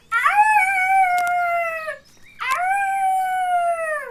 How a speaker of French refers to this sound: Un hurlement s'échappe de sa gorge et fait trembler les arbres de la clairière.